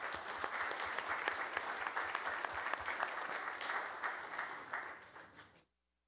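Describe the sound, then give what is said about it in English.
A crowd applauds the judges of the 2009 Employee Excellence Award steadily for about five and a half seconds, a dense wash of many hands clapping with occasional sharper claps, then it tapers off quickly into silence. “If you give them a round of applause.”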